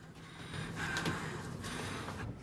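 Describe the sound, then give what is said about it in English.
A young man and a woman breathe heavily in a lift, ragged breathing with a sharp gasp in the middle, fairly loud, over a steady low background hum; no words are spoken. “Both the young man and woman are breathing heavily.”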